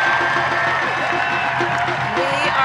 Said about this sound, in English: And you can hear that crowd coming in loud right there.